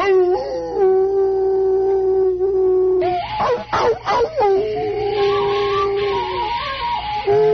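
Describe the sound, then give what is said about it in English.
Hounds howl in long, sustained, wavering tones, a steady mid-pitched howl giving way to overlapping, rising and falling howls and yelps from several dogs, loud throughout with no talking. “Thank God, Holmes, you hear those hounds.”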